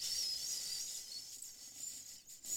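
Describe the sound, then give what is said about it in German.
A voice imitates a very quiet bee, repeated on request, with a soft, steady, hissy buzz that holds for a couple of seconds and dips briefly near the end, with no talking. “Mach nochmal eine ganz leise Biene.”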